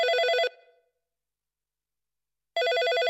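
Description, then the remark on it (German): A telephone rings loudly: a half-second burst of bright, rapidly trilling bell tone, a pause of about two seconds with a short fading ring-out, then the ringing starts again. “Alles begann kurz vor Weihnachten mit einem Telefonanruf.”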